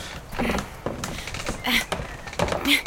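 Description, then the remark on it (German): A warped wooden door of a garden summerhouse is tugged again and again, rattling and thudding in its frame with brief creaks between the jolts, moderately loud. “Also, die Tür ist aber... ganz schön verzogen. Ich krieg sie gar nicht auf.”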